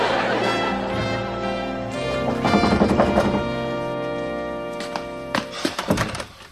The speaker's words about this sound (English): There's a doorbell, you know. What? Why did you knock when I have a doorbell?